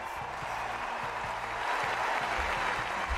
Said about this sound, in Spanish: una pista central que le brindó un minuto y medio de aplauso